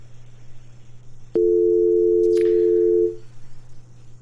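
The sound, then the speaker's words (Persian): A sharp click, then a loud, steady telephone busy tone after a dropped call holds for nearly two seconds before cutting off, over a low electrical hum, as the phone line is not working properly. No one speaks. “باز هم فکر میکنم تلفن درست کار نمیکنه، مشکلات نمیفهمم از طرف ماست یا از طرف تلفن های شنونده هاست، اما خدا کنه باز هم مشکلات حل شوه”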